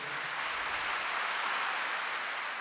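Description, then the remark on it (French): Sustained applause from a large, emotional crowd at the start of Pope Benedict XVI's audience, a dense, steady wash of clapping that holds at an even loudness throughout with no voices standing out. “Des explications entrecoupées de longs applaudissements d'une foule émue comme le pape, Benoît XVI, au début de l'audience.”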